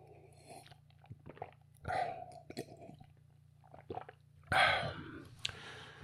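Someone takes a sip of beer: soft wet gulps and swallowing clicks, with two louder slurping bursts amid quiet mouth noises and a low steady hum, no talking.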